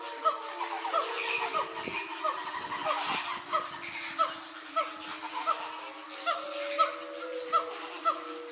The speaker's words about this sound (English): What we're hearing there is a mix of wolves, and then that booming sound, that's the Simon Gibbons. And in the background, that sort of almost mechanical sound is made by lemurs.